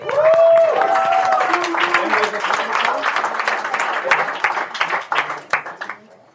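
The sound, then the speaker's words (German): An audience breaks into steady applause to welcome a comedy act, dense overlapping clapping with a brief voiced whoop near the start, gradually thinning into scattered claps before fading out. “Und jetzt hören wir mal ein bisschen Comedy. Ne? Also, einen großen Applaus.”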